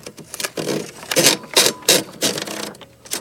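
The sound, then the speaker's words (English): A typewriter roll ratchets through a series of rapid mechanical clicking surges, five or six loud, bright bursts in quick succession with brief dips between them, and no voices. “That is a typewriter roll, my friend.”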